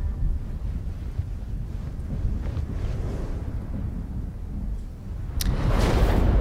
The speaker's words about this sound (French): Ah, j'entends un bruit de vent. D'orage. D'orage, de pluie.